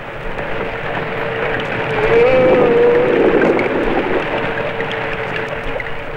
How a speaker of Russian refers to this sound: В звуках подводного мира разобраться так же трудно, как и в обычном лесном гамме. Нелегко здесь выделить отдельных солистов.